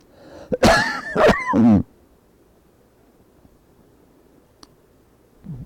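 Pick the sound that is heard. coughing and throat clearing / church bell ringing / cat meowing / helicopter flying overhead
coughing and throat clearing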